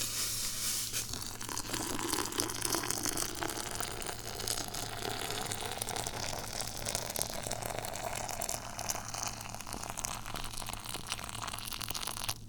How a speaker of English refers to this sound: And we're going to have to do a one-handed pour. So I'm going to put the teapot here. I'm going to grab a towel. Our water is now good. And here we go. The pour.